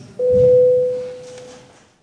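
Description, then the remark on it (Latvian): A single steady electronic bell tone in the Latvian parliament, calling members to vote, sounds abruptly and holds at one pitch for nearly two seconds before fading out, with a faint low murmur underneath. “Paldies, lūdzu, zvanu.”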